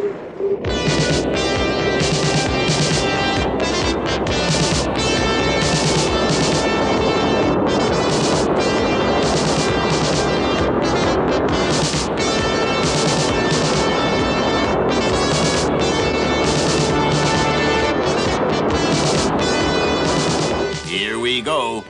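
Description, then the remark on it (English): A spacecraft's main engines start at launch: a massive, continuous engine roar fills the whole stretch, loud, with crackling high-end texture and deep rumble that stays steady before easing slightly at the very end. “Ready to launch. Start main engines.”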